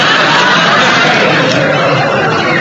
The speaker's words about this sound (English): What a match it was, with the cheers of the crowd roaring in our ears.